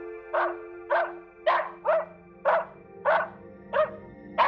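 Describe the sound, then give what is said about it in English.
A dog barks steadily, about eight sharp, evenly spaced barks over a few seconds, clear with no other sounds around them. “Shush, Nikki! That's our new protector, Gerard. Don't bark at him!”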